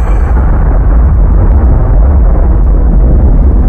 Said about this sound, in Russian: Так, давайте, где взрыв? Вот. Ба-ба-бах! Вот это ба-ба-бах!